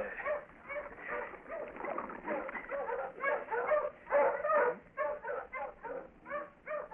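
tracking dogs barking

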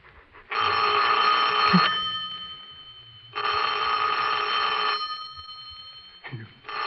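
telephone bell ringing

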